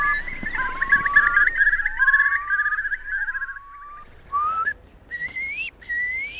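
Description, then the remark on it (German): A Eurasian curlew, a buzzard-sized bird with a long, ibis-like curved bill, calls in a long series of rising, bubbling whistles that trill and waver, then a few sharper upslurred notes, clear with no talking. “Das gehört eben. Das ist einer unserer Stars hier, das ist der große Brachvogel.”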